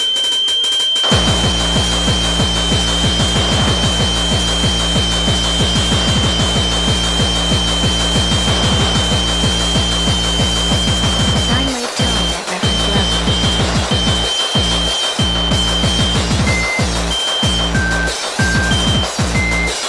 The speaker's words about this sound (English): Sine wave tones at reference level.